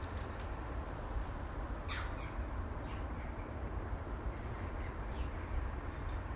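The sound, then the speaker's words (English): A blackbird gives a few short, sharp calls at irregular intervals, fairly faint against a steady outdoor hiss and low rumble. No one speaks. “You'll get fat, Mrs. Blackbird.”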